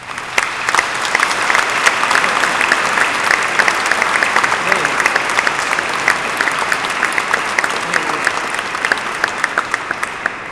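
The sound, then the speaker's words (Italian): A church audience breaks into steady, sustained applause for a family from Naples after a nuptial blessing, dense clapping filling the space evenly for about ten seconds with no pauses, loud, with faint murmuring underneath. “E anche per loro c'è un applauso.”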